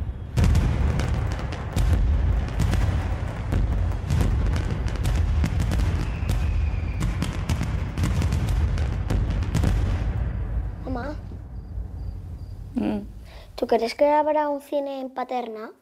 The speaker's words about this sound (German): Ein Feuerwerk am Nachthimmel, vor der verlassenen Bahnstation.